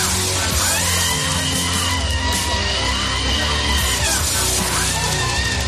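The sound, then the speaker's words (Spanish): A shrill, strained voice, the Equality minister screaming at a protest against the amnesty, screams and yells over loud, dense rock music mixed in afterward. The two run together at a steady, high level for the whole stretch, with the shouting sitting up front. “hemos cogido los gritos de la ministra de Igualdad y los hemos mezclado con un tema de …”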